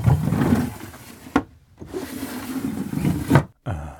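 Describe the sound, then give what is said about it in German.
A wooden door creaks and rubs as it swings, then shuts with a sharp knock, twice in a row, with short silent pauses between. No talking. “Also es ist eine Tür, die ich öffne und schließe”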